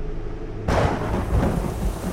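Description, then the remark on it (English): A sudden, loud crack of thunder bursts in after a quieter moment, then rolls on as a deep rumble over the steady hiss of heavy rain. No one speaks. “The next crack of thunder was so loud I felt it in my chest.”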